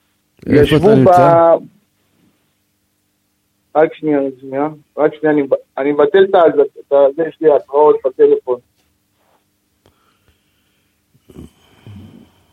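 Phone emergency alert notifications sound as Hezbollah fires at the Krayot in Israel: a short loud electronic burst, then a longer run of rapid, pulsing alert tones in a steady rhythm, followed by quiet and faint noise.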